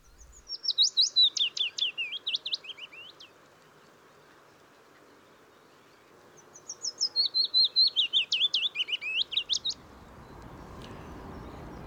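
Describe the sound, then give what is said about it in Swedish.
Two clear willow warbler song phrases, each a sweet, high, descending cascade of notes lasting about three seconds, separated by a short pause, with faint background hum and rustle. “Lövsångaren är dagens fågel, Rickard.”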